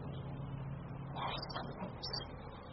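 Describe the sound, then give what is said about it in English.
A faint, steady rumble of road traffic, with cars passing and swelling slightly now and then, with no voices and no other sounds standing out. “Traffic. The road. I'm sure I can hear cars.”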